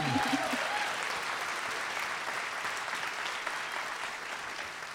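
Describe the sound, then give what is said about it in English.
An audience claps steadily for cute pets that were shown, a dense, sustained wash of applause that stays fairly loud and even for the whole five seconds, with a brief voice fading out at the very start. “Round of applause for those cute animals.”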